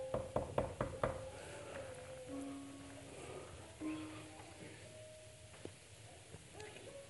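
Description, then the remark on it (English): A quick burst of about six firm knocks on a door, Nathan knocking at David's door in the Bible story, rings out at the start, then gives way to quiet, sustained tones and soft background sound. “David, Nathan, at the door.”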